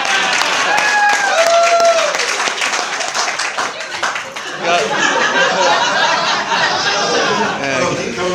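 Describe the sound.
An audience breaks into loud, sustained applause lasting several seconds, dense clapping with scattered cheers and whoops and crowd voices mixed in, congratulating a couple on their anniversary.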